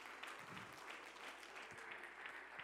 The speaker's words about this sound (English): Come on, clap your hands all over this building one more time.